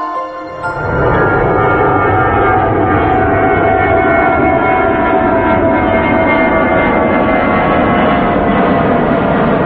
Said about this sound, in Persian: صدای این جت رو میشنوی. این سرعت ساخت ایران تو سال 57 بوده.